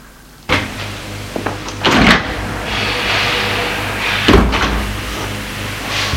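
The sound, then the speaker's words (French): A door opens with a sharp click and a wooden knock, followed by a sustained airy rush and another thump near the end, with no one speaking. “La porte s'est ouverte sur la femme en robe blanche, rayonnante.”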